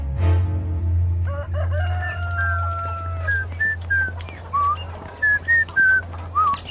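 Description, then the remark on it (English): A person dressed as a beggar whistles a cheerful, bouncy tune early in the morning on the way to the market, starting with a long held note and then a string of short, bright notes, over a steady low hum and faint background bustle. “Do beggars usually whistle so happily, Lysias?”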